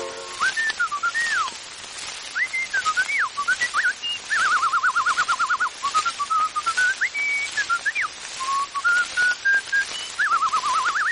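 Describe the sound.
A person whistles an imitation of a blackbird's song: clear tonal phrases with rising and falling slides and rapid warbling trills, continuous for several seconds with brief pauses between phrases.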